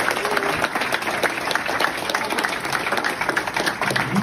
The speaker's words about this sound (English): Important that I show this video of people clapping for me.